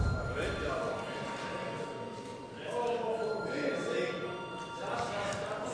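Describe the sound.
A parliamentary voting bell rings continuously for several seconds, a steady bright metallic tone with a rattling edge, over a faint murmur of voices in the chamber, called for before deputies vote on whether to hold a re-vote.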